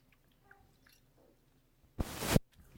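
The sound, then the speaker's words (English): A single short, wet slurp of someone sipping water, after a couple of seconds of near silence with faint mouth and handling noises. “Let me get a drink of water.”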